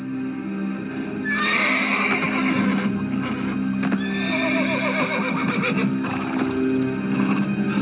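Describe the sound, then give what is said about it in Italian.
A horse neighs and whinnies loudly several times in shrill, quavering bursts as people repeatedly try and fail to mount it, with a steady low rumble and some hoof clatter underneath throughout. “Fonti riportano che, nonostante numerosi tentativi, nessuno riesce a montare il cavallo.”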